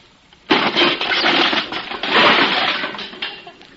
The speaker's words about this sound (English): Kindling wood, anybody? Gee whiz, Bill, you smashed the whole birdhouse. Yeah, so I see.